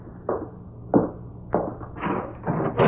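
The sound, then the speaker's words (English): A house door being opened: a run of wooden knocks, clunks and rattling handling noises at an uneven pace, growing a little busier toward the end, with no voices. “I'll get the door open.”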